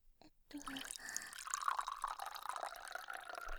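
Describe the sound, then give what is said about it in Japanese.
Water pours steadily into a cup for about three seconds after a brief tap, the gurgling tone rising in pitch as the cup fills, with no voices. “お水とコップ。”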